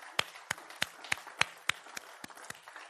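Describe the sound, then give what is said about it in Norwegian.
A single person claps their hands about ten times in a steady rhythm, the sharp slaps moderately loud at first and gradually softening and slowing slightly toward the end, with no voices. “Jeg skal gi deg en klapp allikevel.”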